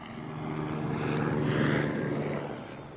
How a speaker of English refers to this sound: Helicopter.